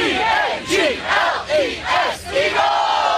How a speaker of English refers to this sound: Birds fans in the sky, breaking out the Eagles fight song on a plane.